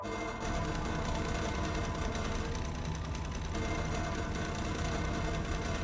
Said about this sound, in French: Wistiti s'assied devant un grand volant. Tiens, pense Nico, je ne me souviens pas avoir mis ce volant ici. Aussitôt, la machine se met à vibrer.